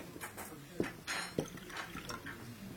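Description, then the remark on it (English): Corvo Bianco wine pours into a glass in short gurgling splashes, with a couple of sharp clinks of glass and a soft murmur in the background. “Corvo Bianco. It's the same glass. Where's our lunch? It comes. I'll pour.”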